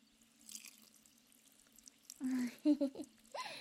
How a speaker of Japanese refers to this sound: さて最後に普通の水で流すからの。いくぞ。